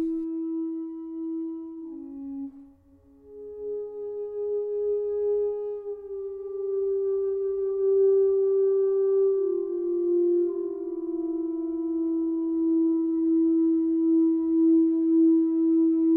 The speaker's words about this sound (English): By moving the ring in the air above the keyboard, the pitch of the voice is moved up and down, gliding with very natural vibrato possibilities